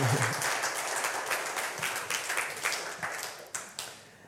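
An audience claps steadily, a dense wash of many hands that holds fairly even and then begins to thin out, with individual claps more distinct toward the end.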